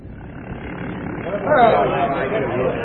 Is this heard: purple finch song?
no